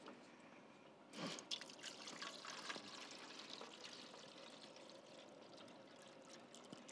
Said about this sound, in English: I think you take this off and you add water. Here we go.